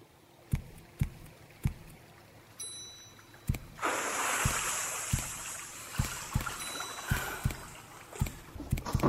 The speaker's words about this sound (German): Ein Hörspiel, das sich auch als Game auf dem Smartphone spielen lässt. Halte dich links. Achte auf das Geräusch des Wassers.